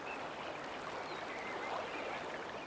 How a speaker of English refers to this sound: This here is the Sanpoil River.